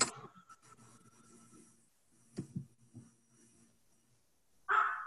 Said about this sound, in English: My dog barked at the same time, so we missed it.